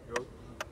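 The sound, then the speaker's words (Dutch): Two sharp, dry ticks from a ground-penetrating radar device with a transmitter and receiver, used to find anomalies, spaced about half a second apart, fairly quiet against a low background hum with no talking. “Misschien hoor je hem tikken.”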